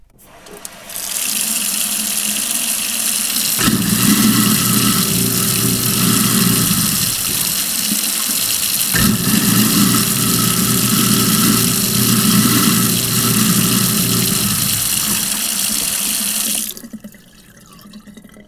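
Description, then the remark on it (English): A garbage disposal runs for about sixteen seconds, used as the usual sound test, under a steady hiss of running water, with a low grinding motor hum that rises in two stretches before everything cuts off. “Neil's favorite garbage disposal.”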